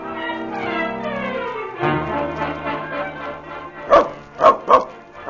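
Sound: dog barking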